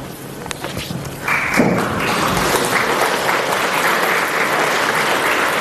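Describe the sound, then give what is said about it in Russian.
An audience bursts into applause, many hands clapping in a dense, steady wash that swells after a brief quieter start and keeps going without letting up. “Уважаемые коллеги, я паузу делаю не для того, чтобы вы хлопали, а для того, чтобы вопросы задавали.”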